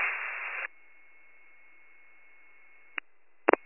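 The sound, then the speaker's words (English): A loud burst of radio static for about half a second on a Warren County emergency scanner transmission, then a quiet hiss with a faint steady tone, followed by a few sharp clicks near the end. “My body sub in command, the rest was static.”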